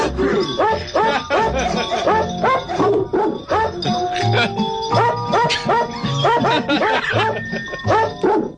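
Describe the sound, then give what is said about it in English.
Dogs bark in quick rhythmic bursts that follow the melody of a Christmas song, steady and loud for the whole stretch, with sustained musical tones underneath like a novelty song made of barks. “Sound like Dave's dog, Arthur.”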